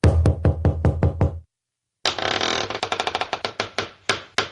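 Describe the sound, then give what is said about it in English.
A secret door sound effect: a quick run of about six sharp knocks, a short silence, then a loud grinding, rattling rush punctuated by repeated clacks. No voices. “So let's open up the secret door, first of all.”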